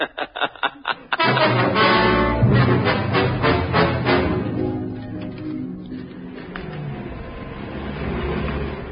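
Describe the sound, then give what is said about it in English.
A few sharp sputtering bursts, then heavy lorry engines roar into life and keep running as a loud, steady, rumbling drone. “Are the lorries warmed up?”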